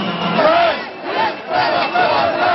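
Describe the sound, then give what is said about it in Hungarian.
A crowd of several hundred protesters shouts anti-government slogans in unison at the National Museum during official national holiday celebrations, loud, with chanted phrases rising in rhythmic bursts about every second over a dense roar of many voices. “Ekkorra már több 100-an kiabáltak kormányellenes jelszavakat.”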